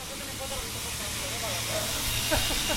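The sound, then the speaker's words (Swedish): An angle grinder runs steadily on a terrace, giving off a harsh, continuous hissing whir at an even loudness, with faint, indistinct voices murmuring underneath. “Sen hörs en man ropa till och oljudet från slipmaskinen på terrassen slutar bara plötsligt.”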